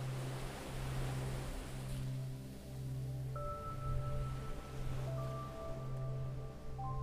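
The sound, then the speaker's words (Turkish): Sea waves wash softly over sand in a steady, hissing murmur with gentle swells, over a low hum, while faint sustained high tones enter partway through. No one speaks. “Dalgalar kumla tatlı tatlı oynuyormuş. Bir gelip bir çekiliyor, bir gelip bir çekiliyor, fış fış diye mırıldanıyormuş.”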